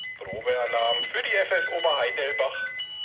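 A new digital fire brigade radio pager sounds its alert for the Oberheidelbach fire brigade, a loud run of shrill electronic beeps that step between pitches and continue for about three seconds.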